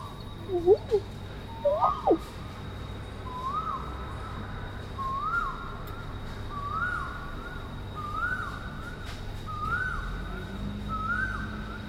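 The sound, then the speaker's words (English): Two loud, swooping bird calls ring out, heard from a second-floor balcony, followed by a steady series of softer repeated notes that seem to echo, all over a constant low hum from an air conditioner compressor unit overhead. “And this is the only bird that you can actually hear the echo of their own, whatever you call it, the call or singing.”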